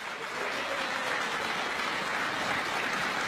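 Sustained applause from a large crowd at a Law and Justice election convention in Łódź before the European Parliament elections, welcoming party leader Jarosław Kaczyński; a dense steady clatter of many hands clapping at once with no voices, fairly loud and even throughout.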